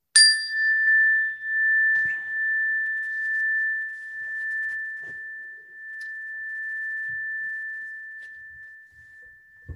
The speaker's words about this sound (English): And just allowing the sound of the chime to just take us into the next few moments.